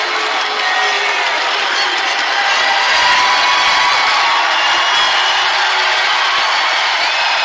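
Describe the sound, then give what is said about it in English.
A large crowd in an auditorium at a Donald Trump rally cheers and shouts continuously, chanting "Trump, Trump, Trump", a dense, loud wall of voices with whoops rising out of the roar, sustained for the whole stretch without a pause. “The whole crowd is electrified, shouting and, you know, shouting Trump, Trump, Trump.”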